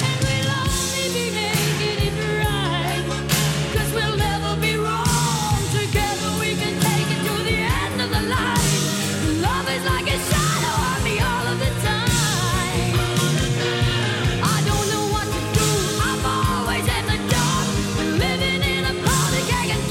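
A woman belts out a dramatic power ballad over a full, driving band, her voice straining and soaring with raw desperation, loud throughout.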